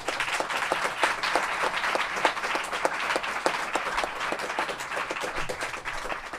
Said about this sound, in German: Bitte begrüßt mit einem maximal freundlichen Applaus meinen Co-Moderator